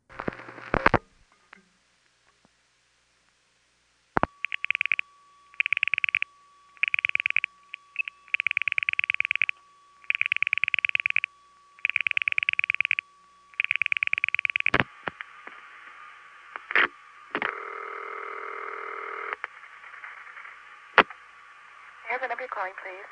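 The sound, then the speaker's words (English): A band-limited telephone line recording of a call through the Schenectady step-by-step tandem switch: a sharp click, then a steady tone under a run of evenly spaced rhythmic bursts, followed by more switching clicks and a short stretch of signaling tones. “What follows is the last call to the Schenectady step tandem that I ever made or recorded.”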